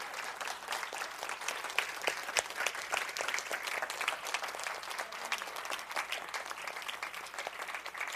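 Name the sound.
audience applauding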